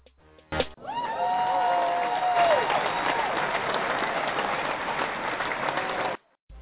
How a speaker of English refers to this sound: Clap it up, because I'm famous.